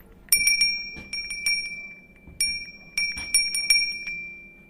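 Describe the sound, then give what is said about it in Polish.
An original small sleigh bell rings in two quick bursts of several shakes each, separated by a short pause, its bright metallic tone lingering between strikes. No one speaks. “To jest oryginalny dzwoneczek z tych zdań? Oryginalny.”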